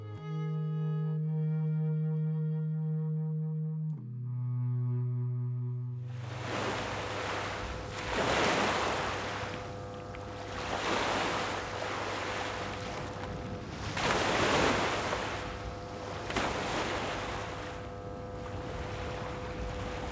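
Surf rolls in with repeated loud breaking waves, each surge swelling and washing out every few seconds over a low steady drone. A brief tonal musical passage comes before the waves.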